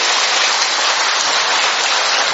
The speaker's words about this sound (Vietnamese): Cho nên xin chúc mừng tất cả các bà mẹ, một tràng pháo tay thật lớn thưa anh chị em, một tràng pháo tay thật to thưa các bạn.